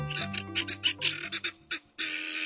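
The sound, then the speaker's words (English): Helmeted guinea fowl give loud, raucous calls, a rapid series of harsh, rhythmic cackles, ending in a longer grating burst, with no talking. “But from Senegal to South Africa, where the birds are native, their raucous calls are a familiar sound.”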